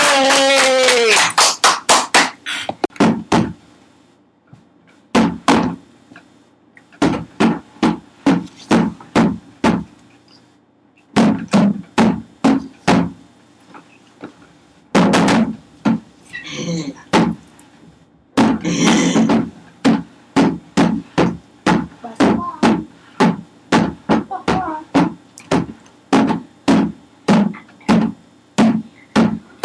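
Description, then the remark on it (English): A drum is played by a musician performing for a class, in fast bursts of sharp, loud strikes, grouped into rhythmic phrases separated by short pauses. A ringing roll opens it, and there is no talking. “who's going to be playing the drums.”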